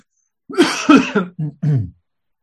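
A sneeze bursts out as a string of short, loud, breathy vocal blasts in quick succession, the first ones strongest, then it stops. No one speaks.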